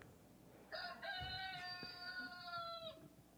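A single rooster crow played from a smartphone plays loud, a quick opening note followed by a long, steady held cry lasting about two seconds before cutting off, with a thin, tinny tone and no talking.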